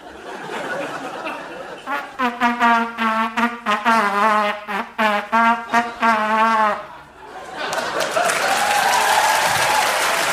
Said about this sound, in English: well, they're applauding more than they have for most of our songs, which is disappointing, but they haven't got it yet.